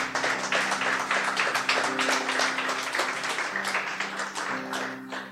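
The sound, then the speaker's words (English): An audience applauds steadily for several seconds, dense overlapping claps forming a loud, even wash, while low sustained musical notes hum underneath and the clapping tapers slightly toward the end. “Will you give these folks a round of applause?”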